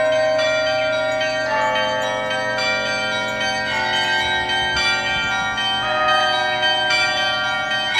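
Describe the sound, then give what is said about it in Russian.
Small and medium church bells ring together in a steady, overlapping peal, with repeated strikes layering into a loud, shimmering wash of tones, with no voices. “Послушайте, как будут звучать колокола подзвонные и зазвонные, если их вместе совместить.”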